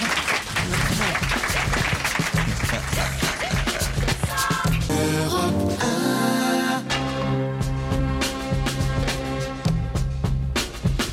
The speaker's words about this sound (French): J'entends déjà les applaudissements, écoute.